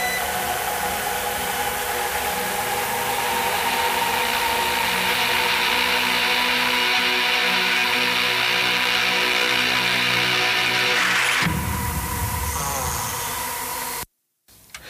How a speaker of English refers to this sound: Hey, Houston, did you pick that up? Cambridge, this is ISS 37. Did you guys pick up that radio interference?